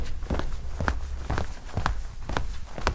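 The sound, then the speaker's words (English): Footsteps walking out the door at a steady, unhurried pace, about six or seven evenly spaced steps with dull low thuds and crisp scuffing clicks over a faint constant background hum, with no voices. “Walk out the door.”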